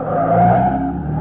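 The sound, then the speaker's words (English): A man's car engine roars loudly and steadily as he drives off, heading down toward Rosecrans, its pitch rising slightly as it accelerates, with a faint tire-squeal edge. No voices. “He's in his car.”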